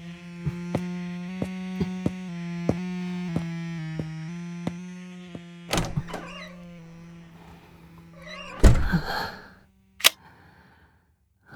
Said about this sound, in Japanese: すぐに戻るから、いい子で待っててね。ああ、一応、鍵はかけていくから。